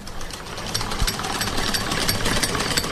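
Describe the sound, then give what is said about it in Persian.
A sewing machine runs steadily for the whole stretch, a dense, rapid mechanical chatter with bright clicking over a low rumble, fairly loud and continuous, with no voices. “نام خدای، ډیر ښه ماشین دی، کارخانه یې معتبره ده.”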